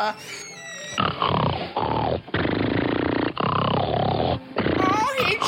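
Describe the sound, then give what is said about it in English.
Loud, rasping snores come in a steady series of about four long, grunting breaths separated by brief pauses, rough and pig-like in tone, after a short high whistling sound at the start. “Snore so lovely.”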